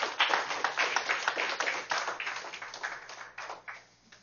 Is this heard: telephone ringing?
no